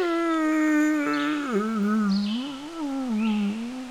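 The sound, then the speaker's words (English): A voice performs the yawn of Daffy the Dragon, sleepy among the flowers: one loud, steady groaning tone that slides lower and wavers for about four seconds, with no words spoken. “Oh, he yawned.”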